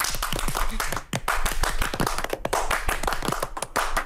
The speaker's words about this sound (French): posez le téléphone parce que j'ai besoin de vous pour l'applaudissement russe. 1, 2, 3.